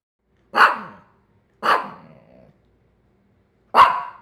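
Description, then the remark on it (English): A small black poodle named Pookie barks three times on its own, sharp and fairly high-pitched yaps. The first two come a second apart, the second trailing off slightly, then a longer pause before the last. “Pookie is my family's little black poodle, and she loves to answer questions from boys and girls.”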